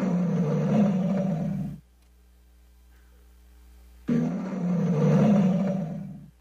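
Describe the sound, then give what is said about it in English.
A male lion roars twice, each loud, rumbling roar lasting about two seconds, separated by a brief quiet pause. No one speaks. “Here he is. Here's the lion. So, he is ferocious.”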